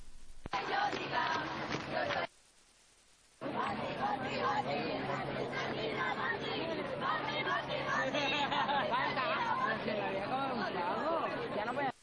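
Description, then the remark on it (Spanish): A dense crowd of protesters shouts and clamors on the Gran Vía, a loud, continuous wash of many overlapping voices, broken once early on by a second-long drop to near silence. “Bueno, son gritos que están escuchándose ahora mismo en la Gran Vía.”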